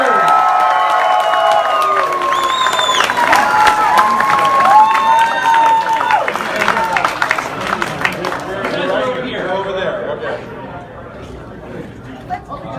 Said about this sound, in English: Let's have a good round of applause for … and …!